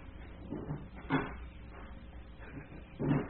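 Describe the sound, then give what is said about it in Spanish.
A door being shut as a woman disappears behind it, heard as a handful of dull wooden knocks and thumps spread unevenly, with the strongest bangs near the middle and the end, over a low, quiet background with no voices. “Brenda desapareció tras la puerta”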